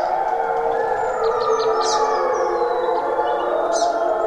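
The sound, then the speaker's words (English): Two packs of wolves howl at one another at dawn in a sustained, overlapping chorus of long wavering tones. A few higher yips and bird chirps cut in briefly above the steady howling. Recorded in stereo with two microphones. “And I had a pack of wolves in front of me and a pack of wolves in back of me, and was completely surrounded with these two groups just yowling at one another in the dawn light.”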